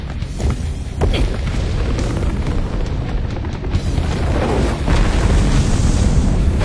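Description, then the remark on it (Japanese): Steam bursts out in a loud, continuous roar, a deep rumble mixed with broad hissing that surges sharply after the first second and again near the end, with no voices. “みんな、水蒸気が噴き出してくる。”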